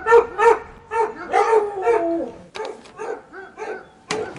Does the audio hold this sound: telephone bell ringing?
no